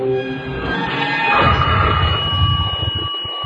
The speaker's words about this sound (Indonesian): Tak lama setelah itu, telepon di rumah kakek berbunyi.